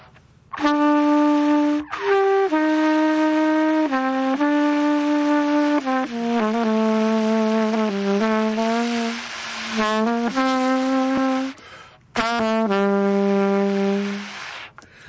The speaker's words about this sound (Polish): Trąbka jazzowa.